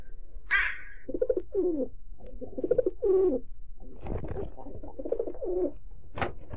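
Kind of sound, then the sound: bird, pigeons cooing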